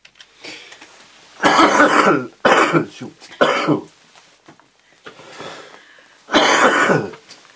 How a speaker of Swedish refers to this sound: Det är tur vi kan klippa. Om vi behöver några hostningar till något ljudarkiv nu, ja, så finns det.